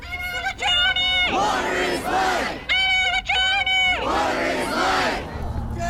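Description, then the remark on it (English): A large crowd of water protectors marching down a street in a protest chants "Water is life!" in unison, a loud call-and-response phrase repeated twice, sustained held notes alternating with rougher, rhythmic bursts of many voices shouting together. “This is an incredibly organized protest.”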